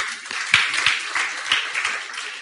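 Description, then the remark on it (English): An audience claps steadily for teachers, a dense wash of many overlapping hand claps at moderate loudness with a few sharper individual claps standing out, and no one speaking. “And we clap for the teachers.”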